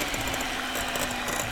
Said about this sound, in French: Ensuite, pour aller un peu plus vite, le batteur électrique.